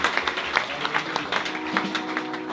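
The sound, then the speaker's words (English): An audience applauds those who prayed that prayer for the first time: dense, steady clapping runs through the whole moment at a moderate level, with a faint low voice or hum showing underneath toward the end. “Can we give a round of applause to those who prayed that prayer for the first time?”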